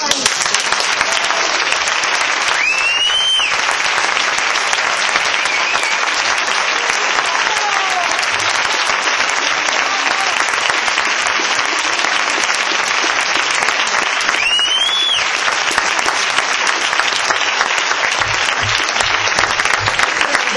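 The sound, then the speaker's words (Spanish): A large crowd at a congress applauds steadily for about twenty seconds, a dense, loud wash of clapping with a couple of sharp whistles cutting through and no speech. “Sin duda lo emocionante es que si aplaudís es porque pensáis que también es mi congreso.”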